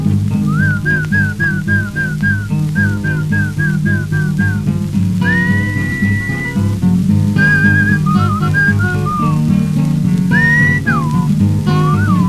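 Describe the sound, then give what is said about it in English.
A person whistles to call a horse, a series of short repeated chirping notes, then longer rising and falling calls, loud, over a steady low background of music. “You must whistle when you want your horse to come to you. Something kind of like this.”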